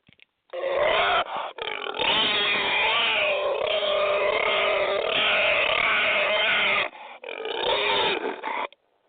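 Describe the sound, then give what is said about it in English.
A person imitates a squealing pig with a long, loud, strained squeal lasting several seconds, a brief gasp, and then a second shorter squealing burst, with no talking. “And if he's by himself, oh, he's going to be squealing like a pig. He's going to be sounding like this.”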